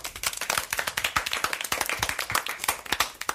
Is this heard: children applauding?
yes